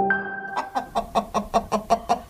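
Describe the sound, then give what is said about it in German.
A brooding hen sitting on an egg gives a drawn-out low murmur, then settles into a steady run of about nine rhythmic clucks, moderately loud, with no other sounds around. “So hört sich das an, wenn eine Henne auf einem Ei sitzt und brütet.”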